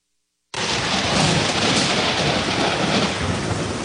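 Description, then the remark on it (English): A steady wash of heavy rain with a low, rumbling roll of thunder underneath, starting abruptly after a moment of silence and continuing loud throughout. “In this area, storms are inevitable.”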